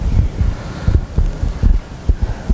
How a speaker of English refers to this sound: The sound of thunder outside.